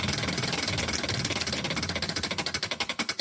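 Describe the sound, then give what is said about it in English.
A prize wheel spins with a rapid, steady clatter of clicks that gradually slows, each tick becoming more distinct as it winds down. No voices are heard. “Let's spin that wheel.”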